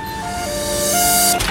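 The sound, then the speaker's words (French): Rush-hour street traffic in a very busy neighbourhood of Tunis rumbles steadily and fairly loudly, with a sustained whining tone riding over the broad road noise and a brief swell near the end. No one speaks. “Ils ont posé leur QG dans un quartier très passant de Tunis, là où la voiture est reine. Et là, c'est l'heure de pointe.”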